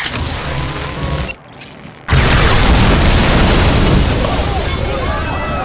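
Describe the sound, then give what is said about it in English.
A loud, rumbling blast from an oversized particle beam pistol erupts into an explosion, a brief hush, then a second sustained roar full of crackling debris, deep and harsh throughout, with no one speaking. “He drew an oversized particle beam pistol from his belt.”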